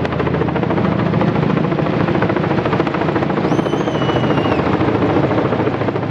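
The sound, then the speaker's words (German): A loud helicopter thunders as it flies in over the grounds of the St. Gallen monastery in the cold, carrying a 20-metre, roughly 4.5-tonne Christmas fir; its rotor chop forms a dense, steady rhythmic pulse throughout, with a brief high whistling tone rising over it midway. “Es ist 10 ab 2, wo der Helikopter mit den Tannen über dem Gelände vom Kloster St. Gallen einfliegt.”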